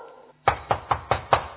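Five firm knocks on a wooden door, evenly spaced in quick succession, fairly loud after a brief quiet moment, as someone calls for the door to be opened.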